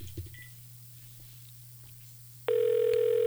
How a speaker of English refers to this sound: I believe the phone is ringing again. Okay, this is a good sign.